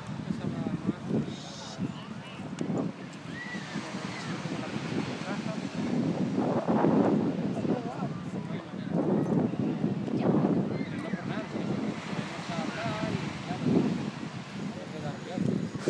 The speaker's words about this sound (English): Okay, that's the sea. We are about 100 meters or 60 meters over the sea. And we are looking towards the Ondarreta beach.